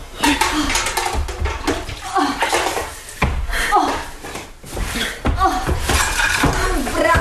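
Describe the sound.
Continuous sloshing and splashing of water with scrubbing as blood is washed off the floor with water by hand, while voices and brief laughter come and go over it.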